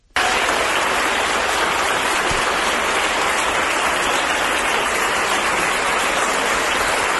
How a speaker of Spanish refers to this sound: Es un chaval, es un joven deportista. Esos aplausos no son porque haya marcado un gol por toda la escuadra o haya hecho un despeje o haya hecho un pase de gol, una asistencia, sino que es porque salía con el alta del hospital en esa silla de ruedas,